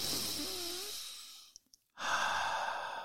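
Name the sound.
deep breath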